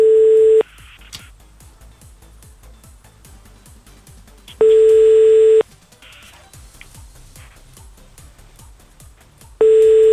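A telephone ringback tone on the line as a radio show calls a listener: loud, steady low-pitched buzzing bursts about a second long, repeating every few seconds, with faint crackly line noise in the gaps between rings.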